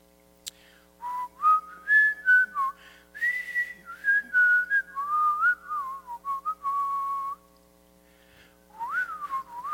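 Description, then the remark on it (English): A person whistles the opening melody of a song in a Name That Tune game, bright and bouncy, clear and fairly loud, in short connected phrases with a brief pause before the tune resumes. No one talks. “This one actually starts out with some whistling, and let's see if I can if I can come up with it.”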